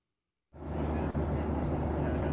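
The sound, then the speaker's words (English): After a brief silence, a steady, loud airplane cabin roar cuts in abruptly and holds constant, its deep rumble sounding muffled and narrow as if carried over a phone line, from a call aboard a Southwest airplane in flight following the path of totality of an eclipse. “…, believe it or not, is on a Southwest airplane following the path of totality”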